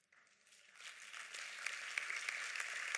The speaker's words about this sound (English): I'm glad you clapped, because I was clapping on the inside.